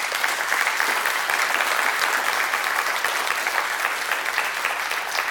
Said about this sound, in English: To the men in this room who are LEOs, thank you. Thank you. We owe them a round of applause, as a matter of fact.